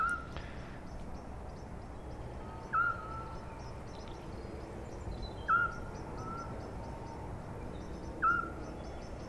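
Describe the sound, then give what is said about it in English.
A male bird gives short, full tooting calls, about four of them evenly spaced every few seconds, with fainter higher-pitched notes from the female answering, over a steady background hiss of insects and ambience. “That tooting, the main toot there, the sort of fuller one, has been given by the male. And then the female sometimes responds, and she's higher pitched.”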